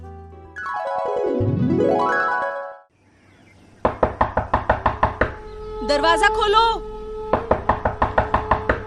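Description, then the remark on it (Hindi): Loud, rapid banging on a house door by the village ASHA health worker comes in two insistent bursts of about eight or nine blows each. A sweeping musical flourish plays beforehand, and a short voice calls out between the bursts. “दरवाजा खोलो। अरे आ रहे हैं भाई, कौन है, क्यों शोर मचा रहे हो?”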